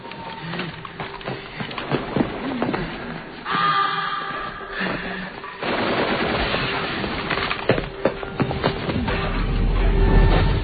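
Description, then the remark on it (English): Rapid bursts of gunfire crackle through a big movie shootout filmed on a stage, with Peter Levy as director of photography: sharp repeated shots layered over a steady rumble and murmured voices, the clatter swelling louder toward the end. “Back on stage for another big shootout, or the continuation thereof.”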